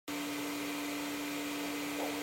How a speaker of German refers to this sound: Ob der Sound des laufenden Staubsaugers suggeriert, dass eine Person, eben die Staubsaugende, in der Nähe sein muss und das Kind also nicht alleine ist?